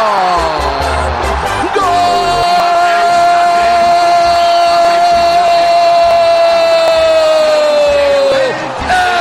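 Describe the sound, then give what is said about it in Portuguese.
A huge stadium crowd of Flamengo fans roars nonstop after Rodinei's shot goes in for a Flamengo goal on Sunday, 7 May, a loud sustained wall of cheering with a steady droning tone running through it for about nine seconds before easing slightly at the end. “Minutos antes do nada, a torcida do Flamengo já pressentia naquele domingo de 7 de maio toda a felicidade de ser rubro-negro.”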